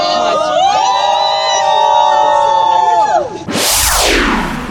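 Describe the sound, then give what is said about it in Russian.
A crowd of football fans supporting Russia's national team chants together in a sustained, melodic unison for a few seconds, then bursts into a loud, roaring cheer that fills the end. “Да, пели, старались и про сборную пели, кричали «Россия вперед!» и пели в том числе на бис для федеральных телеканалов.”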